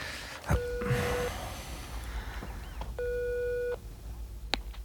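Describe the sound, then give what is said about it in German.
A mobile phone's ringback tone sounds twice through its speakerphone after a number is dialed, each steady electronic burst lasting under a second with a pause between, over faint background hiss and a few small clicks. “zog Bob aufgeregt sein Handy aus der Tasche und wählte die Nummer, die sein Kursleiter ihm gegeben hatte”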